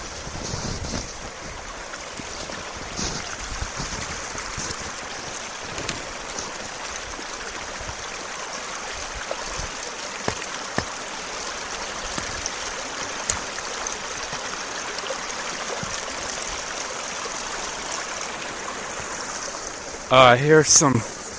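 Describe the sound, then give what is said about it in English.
A steady, unbroken rush of flowing stream water, a soft hiss spread evenly across the whole stretch, with a brief louder burst of sound near the end. “Approaching Matt's area by the stream.”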